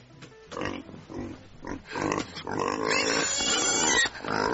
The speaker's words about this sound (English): What, that doesn't sound like piggies to me. No, it was piggies.